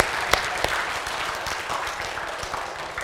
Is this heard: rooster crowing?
no